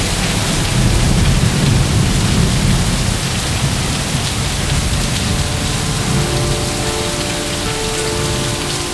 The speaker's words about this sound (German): Ungeschützt waren wir den Angriffen dieses Unwetters ausgeliefert.